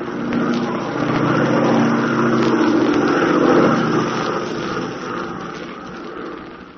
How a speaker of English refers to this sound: Here we are in an airplane